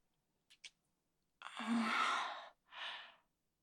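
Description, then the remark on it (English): A person yawns, a long breathy exhale with a low voiced groan, trailing into a softer second breath, preceded by two faint clicks. “You're yawning your face again because I'm not too tired.”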